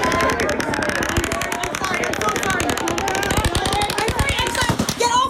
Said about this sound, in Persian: پرتلفات ترین حمله انفرادی در تاریخ امریکا یک شنبه شب رخ داد. یک مرد 64 ساله با 10 شاجور گلوله از طبقه 32 یک هتل بالای جمعیت 22 هزار نفری شلیک کرد.